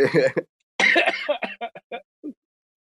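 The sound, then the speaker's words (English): A harsh coughing fit after taking a dab: a couple of heavy, raspy coughs followed by a run of shorter hacking coughs that taper off and grow quieter. No one speaks. “I'm sorry to cough in your ears, guys.”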